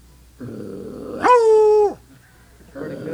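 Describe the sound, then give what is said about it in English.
A hound named Bowser lets out one long, loud baying tree bark, held steady for about half a second before dropping off, with low murmuring sounds just before and after it. “All right, that's a good tree bark there if I ever heard one.”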